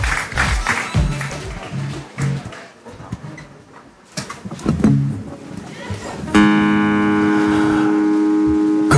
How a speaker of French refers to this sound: vous pouvez applaudir maintenant.